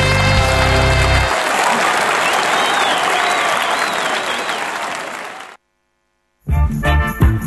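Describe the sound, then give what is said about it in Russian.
Loud, sustained audience applause lasts about five seconds, a dense wash of clapping that fades out, followed by a brief silence and then a burst of music or voices. “Аплодисменты.”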